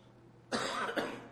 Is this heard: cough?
yes